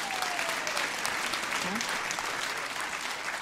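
Steady, dense applause from a large audience fills the space, a continuous wash of clapping that holds at an even level throughout with no voices rising above it. Audience members applaud to show they saw a band's first appearance on the Ed Sullivan Show.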